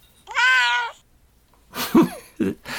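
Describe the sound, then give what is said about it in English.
A single drawn-out cat meow, clear, rising then falling over about a second, followed after a pause by a couple of rougher, louder vocal bursts. “Meow.”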